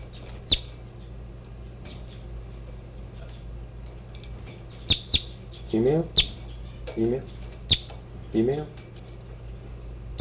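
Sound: birds chirping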